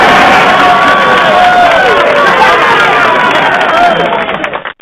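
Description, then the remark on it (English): A loud crowd cheers and shouts continuously, a dense wash of many voices with whoops and rising yells, holding steady for several seconds before cutting off abruptly. “Apparently the crowd liked that.”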